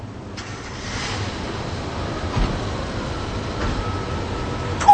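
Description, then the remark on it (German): Steady cold outdoor wind roars as a broad, continuous rush with deep low rumble, fairly loud, swelling slightly now and then, with no voices, at a housing estate of prefabricated concrete panel buildings in Rostock. “Ist das kalt und windig hier?”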